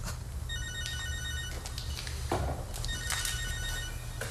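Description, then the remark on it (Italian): A telephone rings in repeated electronic bursts of high-pitched tones, clear over a steady low hum of background noise, with no one speaking. “Scusa, il telefono.”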